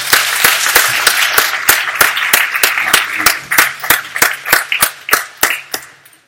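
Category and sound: crowd, audience clapping hands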